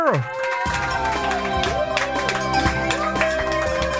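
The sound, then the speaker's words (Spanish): A crowd cheers and applauds steadily for about four seconds: a dense, continuous wash of voices and clapping with bright, wavering whoops riding on top, staying loud throughout. “¡Cómo me animan con estos aplausos!”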